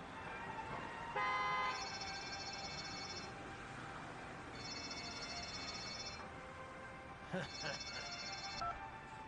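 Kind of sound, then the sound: vehicle, car horn honking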